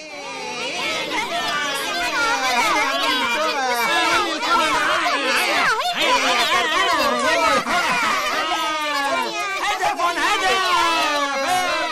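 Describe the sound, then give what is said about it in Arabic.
A lively crowd of children playing and shouting with their cousins at their uncle's house on a weekend visit, many high-pitched voices overlapping in a constant, loud babble of chatter and squeals that fills the whole stretch without a pause. “ولما وصلوا بيت عمهم كانت الفرحة كبيرة جدا، ولذلك قرروا أن يلعبوا مع أولاد عمهم قبل أن يمضي الوقت ويحين موعد العودة.”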